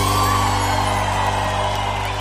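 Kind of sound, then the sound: crowd, audience shouting and cheering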